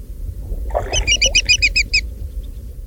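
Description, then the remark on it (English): A greater yellowlegs that has just been flushed gives a rapid burst of about seven sharp, ringing, piercing, loud call notes over a steady low rumble of wind or water. “See if you can hear the tone of sour indignation in the voice of this greater yellowlegs.”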